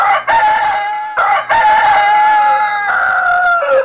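A rooster crows from the far bank of a river near dawn in long, drawn-out calls, several back to back with short breaks between them. The crows ring out clearly over a quiet outdoor background with no talking.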